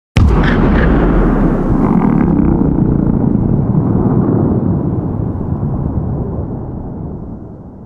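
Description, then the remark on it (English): A sudden loud explosion at a dam bursts out, then rolls into a long, throbbing rumble of scattered echo reflections that slowly fades over several seconds, sounding almost like a revving motorbike. “recording session because of these scattered reflection that created a bit of a throbbing kind of a sound. It sounded like a motorbike kind of thing.”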